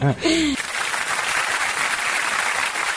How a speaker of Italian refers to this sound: Ecco, anche un bel applauso ti hanno fatto, giustamente.